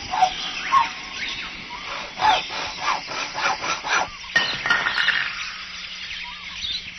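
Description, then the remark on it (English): A saw rasps out shrill, squawking strokes that mimic a jungle bird's call, repeating in a quick rhythm before trailing into scattered screechy cries. “I call this one I Saw It in the Jungle because the sound of that bird is done with a saw”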